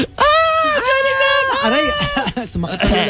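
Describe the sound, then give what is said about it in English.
A person screams loudly, a string of strained, high-pitched wails rising and falling in quick succession for about three seconds with no pause. “scream for me, because with Johnny Depp, throats will hurt. Like, if you keep shouting talaga.”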